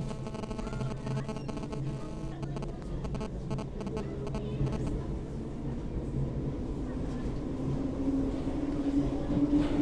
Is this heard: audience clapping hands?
no